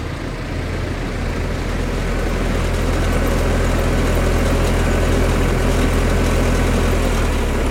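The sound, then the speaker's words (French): A tractor's heavy diesel engine rumbles loudly as it passes by, a steady low drone with a throbbing idle-like pulse that holds at constant strength for the whole stretch, with no voices. “Là, c'est un tracteur qui passe.”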